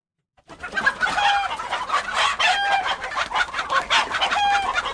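A busy flock of chickens clucks loudly and continuously, with a rooster crowing over the chatter, lasting the whole stretch, with no one talking.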